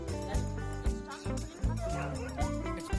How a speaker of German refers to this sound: Hast deine Meute schon eingespannt? Ja, sind alle da. Was heulen die denn so? Haben die keine Lust?